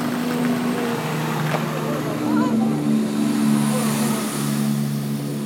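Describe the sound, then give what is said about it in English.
Trains roll past with a loud, continuous rumble and rushing noise, steady droning engine tones running through it for several seconds, while a voice briefly murmurs underneath. “Noisy trains coming past us now.”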